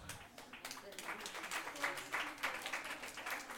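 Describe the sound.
An audience applauds steadily as names are called out one by one, a dense crackle of many hands clapping that rises slightly and holds at a moderate level throughout, with faint voices mixed in underneath.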